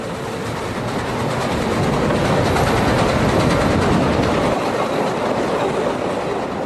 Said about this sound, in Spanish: Santa Fe decía, y todos nos subieron. Y ahí me pusieron en el grupo que me tocaba en Kansas. Era un tren lleno, de 8 o 10 vagones. Bastante personal iba. Todos los carros iban llenos.